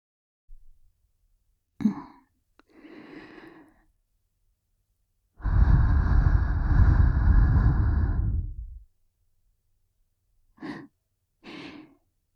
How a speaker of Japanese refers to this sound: 耳に吐息かけられるのも弱いんだ。